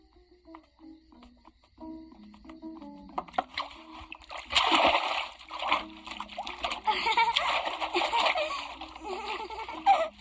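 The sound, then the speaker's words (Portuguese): A child's high giggles and vocal sounds come first, then steady splashing and sloshing water takes over for several seconds, with the child laughing through the splashes, as the boy Kirikou washes himself in the animated film Kirikou. “Uma criança que nasce sozinha se lava sozinha.”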